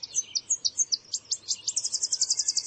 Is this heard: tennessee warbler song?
yes